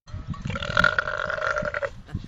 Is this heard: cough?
no